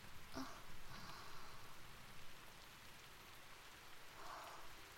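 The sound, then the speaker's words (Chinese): Steady rain pours down, a dense hiss of drops spattering on surfaces, with a few brighter splashes standing out now and then. “太糟了，今天啊，喝了这么多，然后又下雨。”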